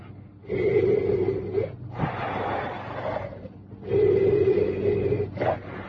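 Slow, deep breaths drawn in and out through an oxygen mask from an oxygen bottle, alternating hissing inhales and exhales, fairly loud with no talking.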